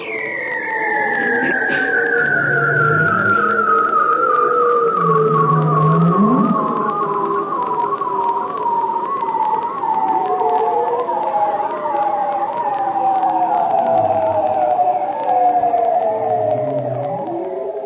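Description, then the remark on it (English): A bearded seal, recorded underwater in the Arctic, sings: one long, warbling trill that glides slowly downward in pitch for nearly twenty seconds, with lower moans and swoops beneath it, loud. “It's a bearded seal recorded in the Arctic.”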